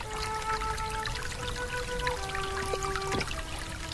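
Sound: spring water flowing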